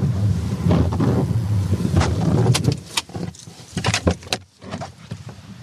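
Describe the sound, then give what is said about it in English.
Rain falling outdoors: a dense, steady hiss with low wind rumble, thinning after a few seconds into scattered sharp taps and splashes. No one speaks. “And, of course, like Walt said, it's raining.”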